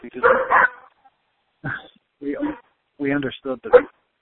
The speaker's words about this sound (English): And my dog is barking. I'm going to keep on talking.